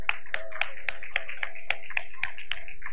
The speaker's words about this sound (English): You know, I monitor the claps for the kids.